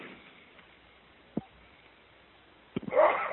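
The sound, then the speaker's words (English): A person sneezes during a meeting: a short sharp sneeze-like burst, a brief pause, then a quick catch of breath and a louder, breathy sneeze against a quiet background. “Just had a big sneezing thing happen.”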